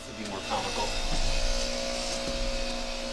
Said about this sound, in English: Can't hear you over the chainsaws. Hello? I don't know if you guys can hear this, but there are a bunch of chainsaws happening outside the window.